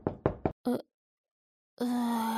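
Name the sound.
knocking on a door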